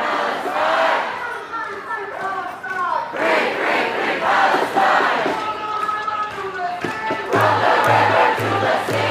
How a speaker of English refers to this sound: Now, of course, they're also chanting things, as they usually do.